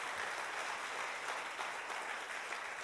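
A crowd applauds steadily to give the Lord a hand clap for the cross during a morning worship, many hands clapping at once in a dense, continuous wash of sound that holds its level throughout, with no voices standing out.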